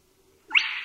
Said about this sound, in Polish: Głos kropiatki najłatwiej usłyszymy w nocy, gdyż w ciągu dnia jest on zaskakująco trudny do wyłowienia z ogólnego harmidru.